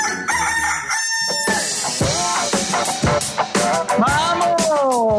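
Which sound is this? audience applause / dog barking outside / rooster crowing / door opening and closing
rooster crowing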